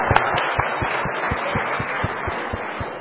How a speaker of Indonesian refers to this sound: Tepuk tangan dulu.